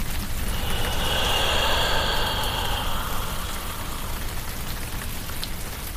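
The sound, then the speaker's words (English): Steady rain falls and patters on a surface, a dense, continuous hiss with a low rumbling undertone, unbroken, with no voices. “And then it rains.”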